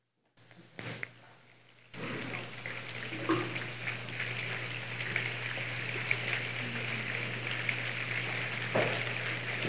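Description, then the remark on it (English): After a brief hush, a soft, steady hiss of light rain imitated by a group following instructions to make a passing storm begins and continues evenly, speckled with faint scattered taps like drops pattering, with no talking. “Kind of starting to rain a little bit.”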